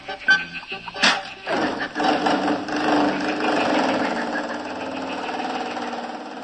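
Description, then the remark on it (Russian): A couple of clunks, then a car engine turns over and settles into a steady, fairly loud running drone that carries on evenly as the vehicle pulls away. “А наши друзья тем временем уселись в автомобиль вместе с бегемотом. Поехали!”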